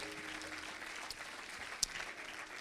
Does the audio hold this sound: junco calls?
no